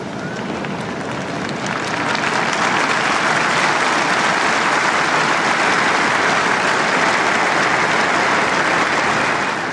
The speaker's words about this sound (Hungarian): Szent Péter téren jelenlevő számos zarándok ma is tapssal köszöni meg Ferenc pápa áldását, az ő tanítását.